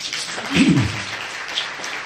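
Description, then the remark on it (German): Steady clapping from an audience fills the space, a dense, crackling patter of many hands at moderate volume with a brief murmur of voices rising in the middle. “Und wenn es da Applaus gibt, nehme ich das am besten gleich vorweg, warum die deutsche Politik dafür mitverantwortlich ist.”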